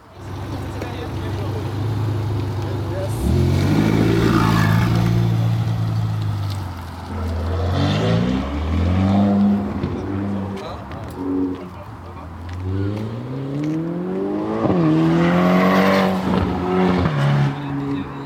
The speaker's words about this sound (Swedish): Det var ljudet av en Ferrari, en sportbil av det vassare slaget. Det är en av aktiviteterna idag, att få en provtur med en sån.